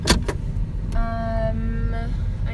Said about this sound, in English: Anyways, I'm gonna move you back to your place and get buckled and then start the truck because it's freaking hot.